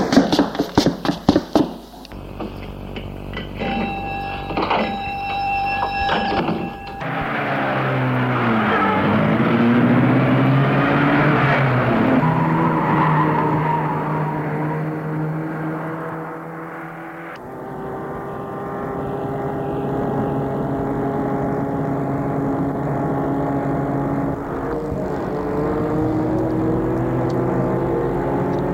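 A car engine roars and whines, its pitch climbing and shifting as it speeds off, after a few quick clattering knocks at the start. The sound stays fairly loud and steady, with no talking.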